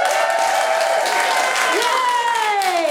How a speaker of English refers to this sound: Cheer if you're dealing with something!